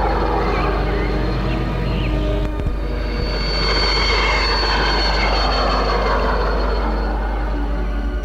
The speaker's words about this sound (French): L'avion a atterri sur une piste le plus près possible du château.